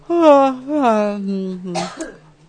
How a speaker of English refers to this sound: Yeah, cough a little bit.